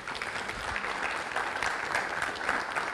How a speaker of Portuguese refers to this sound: Pode aplaudir aí.